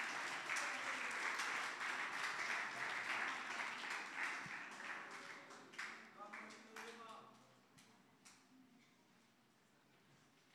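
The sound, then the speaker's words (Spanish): Audience applause at a morning worship service, welcoming young people to the front. A dense, steady clatter of many hands thins into scattered individual claps after several seconds and fades out near the end. “Así que los voy a invitar a que pasen a los jóvenes, recibámoslos con un aplauso esta mañana.”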